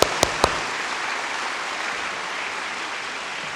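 An audience applauds steadily, a dense wash of clapping that holds at an even level throughout, with a few sharp claps standing out right at the start. No one speaks. The applause welcomes a guest speaker and her translator at an evening gathering at Enfu Church (恩福堂).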